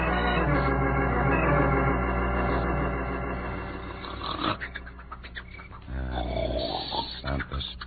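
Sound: man snoring loudly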